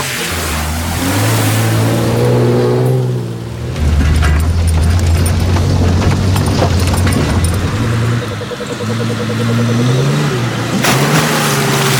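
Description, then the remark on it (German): A car engine drones loudly and steadily, revving up and down, while a broad wash of splashing water rushes around it, as if the vehicle is pushing through a river. “Aber wir sitzen hier im Auto, da sind wir sicher.”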